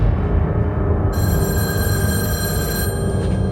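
A telephone rings once with a steady, bright electronic tone lasting about two seconds, a call from the coroner, over a constant low rumbling background and no voices.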